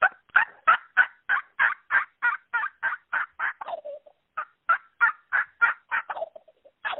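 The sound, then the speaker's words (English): Two rapid runs of sharp turkey hen clucks, each ending in a short, tumbling gobble cutoff, imitated by a caller over the phone. Clear and evenly paced, with no talking. “and this is a hen cluck and then a gobble cutoff.”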